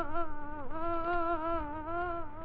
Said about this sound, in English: A difficult question to answer, but perhaps this story begins with a fly. Yes, an ordinary, pesky, buzzing fly.